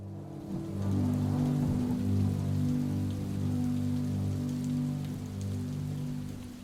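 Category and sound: nature, rain falling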